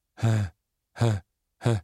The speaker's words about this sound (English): that panicked, drowning sound rose to a crescendo, then plummeted, free-falling into an agonizing void, and then began again.